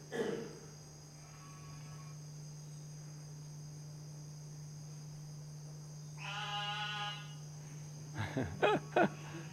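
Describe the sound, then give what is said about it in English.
A small frog calling from water gives a buzzy, harmonic trill lasting about a second, then a few sharp rapid pulsed calls over a steady background drone of night insects. “That is exactly how they call.”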